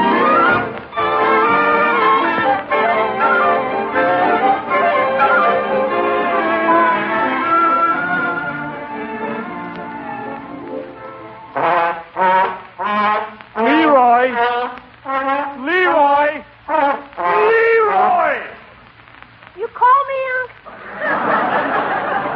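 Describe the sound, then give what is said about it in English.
An old school trombone played badly and loudly: long wobbly, off-key notes, then a string of short squawking blasts with sliding, uneven pitch. “You can't make that old trombone from school sound like anything.”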